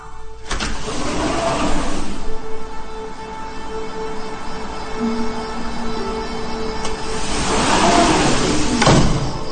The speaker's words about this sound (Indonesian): Pas keluar, ketika dekat pintu, pintu otomatis pun terbuka.